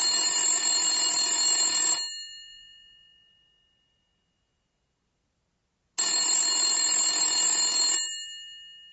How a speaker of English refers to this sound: He dialed. He heard a phone ringing far away.